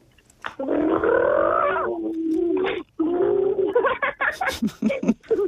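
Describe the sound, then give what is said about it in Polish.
Two sibling children make drawn-out, buzzing growls with their voices, imitating a rumbling stomach, the tones sliding and wavering in pitch before breaking into shorter, choppy bursts. “A czy tak naprawdę wam kiedyś burczało w brzuchu?”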